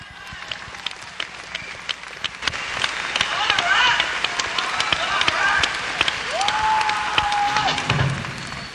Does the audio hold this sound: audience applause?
yes